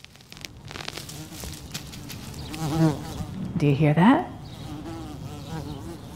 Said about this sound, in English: That's a real live bee in my front yard, swimming through the air around my cherry tree.